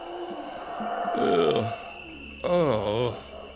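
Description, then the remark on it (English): Two loud, drawn-out howler monkey howls, each a deep, harmonic groan that swoops and falls in pitch, over a steady high hum of background noise. “Those howler monkeys.”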